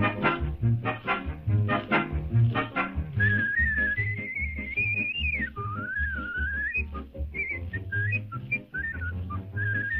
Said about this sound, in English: I think there's a little music here, but let's hear him just whistling for a second.